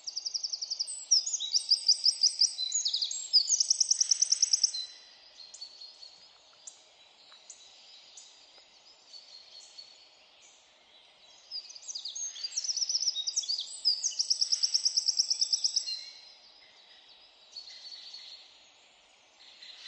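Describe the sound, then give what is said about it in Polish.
A Eurasian wren sings two long, loud bursts of rapid high trills and warbles, separated by a quieter pause, heard alone with faint background ambience. “Strzyżyk też może śpiewać, a takie ma gniazdo w wykrocie.”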